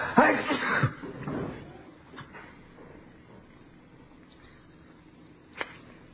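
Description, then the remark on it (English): A single loud, explosive sneeze bursts out at the start and trails off into a quiet hiss, followed later by one brief sharp click. “I'm going to sneeze.”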